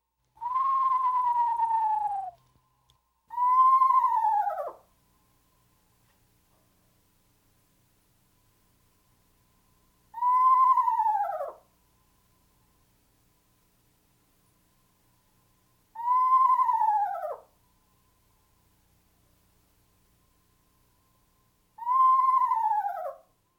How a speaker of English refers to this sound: Our third bird in this group is the eastern screech owl. No hoots here, but rather a mournful, descending whinny.